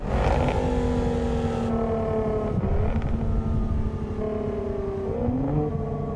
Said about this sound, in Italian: Poco dopo, sul vialetto di accesso, si sentì il rombo di una Jaguar che scalava le marce.